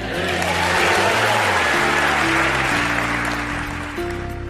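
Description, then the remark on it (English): A large crowd applauds enthusiastically for featured speaker Willie Robertson of Duck Dynasty on Focus on the Family, a dense, steady wash of clapping that stays loud for several seconds while sustained low musical chords play underneath. “An enthusiastic crowd responding to Duck Dynasty's Willie Robertson as our featured speaker today on Focus on the Family.”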